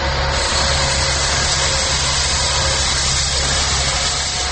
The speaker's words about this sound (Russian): К несчастью, в этот день поблизости начался еще и ремонт дороги.